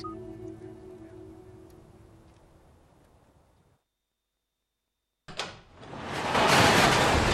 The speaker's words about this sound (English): lifts up the door of the garage